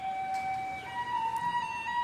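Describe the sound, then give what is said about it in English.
A stationary garbage truck's automatic warning signal sounds as a steady, piercing electronic tone that steps up slightly in pitch partway through, fairly loud over a low background rumble, with no one talking. “The funny thing is, that noise actually is automatic because that truck that we hear, which is actually a garbage truck, is actually still stationary, right?”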